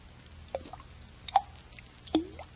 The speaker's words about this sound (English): Now what? Something's dripping. I'll ignore it. I won't let it bother me. I'll pretend there is no drip.